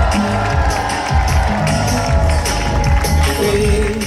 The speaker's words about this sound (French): Oui, il était 20h10 précisément quand le Maxi Banque Populaire a quitté les pontons de Brest. On va l'écouter sous les applaudissements d'un public venu nombreux toute la journée dans le Finistère. Les mains en l'air et faites du bruit, Brest !